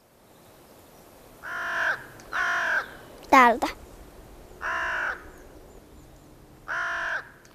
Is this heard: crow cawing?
yes